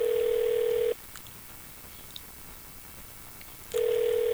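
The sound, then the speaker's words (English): A telephone ringback tone on an unanswered call placed live on the radio to a business: a steady electronic ring cuts off, leaves about three seconds of quiet line hiss, then starts ringing again. No one speaks. “Nothing like live radio with just the phone ringing.”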